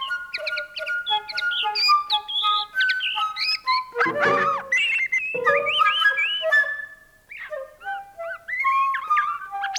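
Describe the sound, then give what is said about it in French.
A Burmese shama songbird whistles and trills in quick, bright phrases while a professional French flutist plays sustained melodic notes alongside it, the two trading lines closely and clearly throughout, with no talking. “dialoguent avec trois oiseaux chanteurs, dont un chama de Birmanie.”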